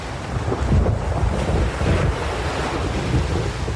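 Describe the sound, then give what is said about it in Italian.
Rough sea waves churn and crash continuously while strong wind buffets the microphone, a dense, steady roar of surf and gusts with no voices. “continua a guardare inquieto il mare minaccioso, sembra quasi che tema che qualcosa debba riversarsi su di lui, quasi fosse una vendetta divina.”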